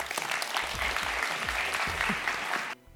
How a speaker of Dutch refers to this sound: Mag ik een heel erg warm applaus